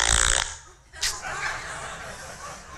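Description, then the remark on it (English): A short, loud, buzzy fart sound effect from a mobile phone app blurts out at the start, followed by a softer murmur of voices and faint laughter in the background. “And maybe the pinnacle of every app ever invented on the mobile device is the app called Fart Cushion.”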